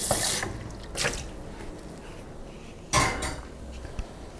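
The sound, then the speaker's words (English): Green beans being poured into a bigger pan that had held potatoes, with a few bursts of clattering and rattling against the metal and some faint wet, watery sounds in between. No one speaks. “I'm gonna pour that into my bigger pan that I had the potatoes in.”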